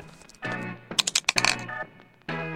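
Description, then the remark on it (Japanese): A die clatters and tumbles across a hard surface in a quick burst of sharp, bright clicks, rolled to decide how many train stations to travel on from Tokorozawa, landing on 3, framed by stretches of voiced sound before and after. “ね、サイコロを振って3が出ましたので、所沢からね、3つ目の駅まで向かいたいと思います。”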